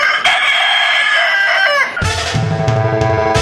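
A rooster crows loudly, one long drawn-out call lasting about two seconds, then it cuts into a burst of music.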